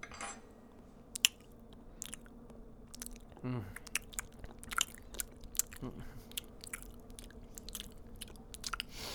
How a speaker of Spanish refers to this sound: Pues no está nada mal esto que has cocinado. ¿No te molesta el...? ¿El qué? El sonido de masticar. No particularmente.